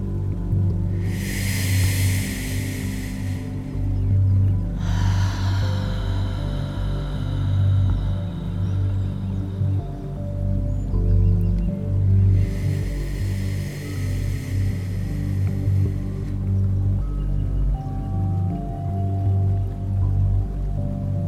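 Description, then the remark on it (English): Three slow, airy breaths of deep relaxed breathing, called a wind breath, each a soft breathy hiss lasting a few seconds with pauses between, drifting over a steady low humming musical drone. No one speaks. “This way of breathing is also called a wind breath. When you hear the sound of the wind breathing in, that's enough.”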